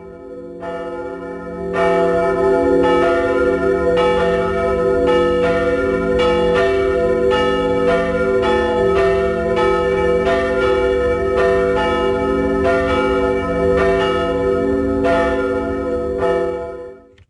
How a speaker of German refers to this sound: Und grosse Seile, wo man sich an die Glocke hängen kann. Und wenn man an den Seile zieht, dann läuten die Glocken. Und dann ist es richtig laut.